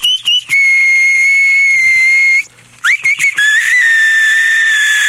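A battery-powered whistling keychain sounds a shrill electronic whistle in two long steady tones with brief chirps between, loud, with a short gap of quiet in the middle and no one speaking.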